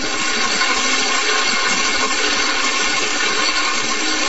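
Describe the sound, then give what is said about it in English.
Falling water pours and splashes steadily onto a small model water wheel, rotating it so a small generator produces electricity; a continuous rushing hiss with faint irregular low knocks beneath it. No one speaks. “This is a model water wheel. When falling water rotates the wheel, electricity is produced by the small generator.”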